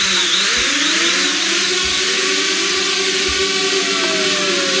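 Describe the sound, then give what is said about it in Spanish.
A loud, steady mechanical whine of a large pilotless passenger drone, a flying car steered from a control room, in flight with passengers aboard, its rotor tones gliding up and down over a broad, hissing roar that carries on without pause and sounds a bit like a chainsaw. “Bueno, sonaba un poco a Sierra Mecánica, parecía, pero lo que parece es un dron enorme.”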